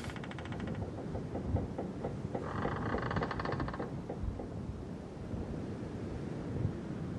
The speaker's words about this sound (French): le moment où on se lance à la voile et où on arrête le moteur sur un voilier, c'est, tu vois, tu commences à entendre l'eau sur la coque